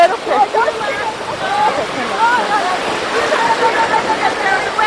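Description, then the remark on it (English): Mediterranean Sea waves wash steadily onto a sandy beach in a continuous, fairly loud rushing hiss, with indistinct voices of people talking mixed into the surf. “I'm on the hard sand now. Here's the wet sand. Here comes the wave.”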